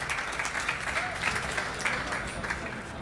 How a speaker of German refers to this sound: Das also ist ja unser Jäger, und ich darf ihn auf die Bühne bitten. Einen großen Applaus.